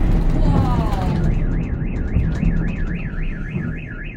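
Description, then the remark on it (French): A car alarm wails with a steady rising-and-falling siren tone, cycling rapidly over a loud rumbling background of low noise and clatter, in a phone video filmed from a riverbank opposite fuel depots bombed by the Russians. “S-a declanșat alarma la o mașină.”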